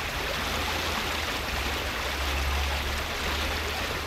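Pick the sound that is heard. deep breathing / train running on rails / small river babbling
small river babbling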